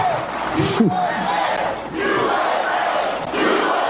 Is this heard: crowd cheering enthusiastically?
yes